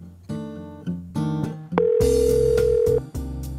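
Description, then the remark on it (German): A steady, flat electronic tone like a telephone dial tone holds for just over a second, sounding over a loud backing of music with shifting tones. “kümmert sich am Telefon um die Anmeldungen für die Ausritte.”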